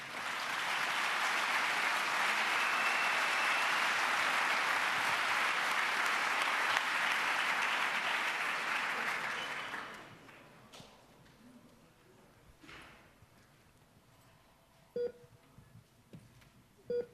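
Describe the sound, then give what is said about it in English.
A conference audience claps steadily to welcome the speakers of a talk on living with a vulnerable implanted device, a loud, sustained round of applause lasting about ten seconds, then fading out, leaving a quiet stretch broken by a couple of short electronic beeps. “Give them a warm round of applause, please.”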